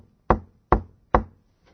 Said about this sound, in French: Voici, je me tiens à la porte et je frappe.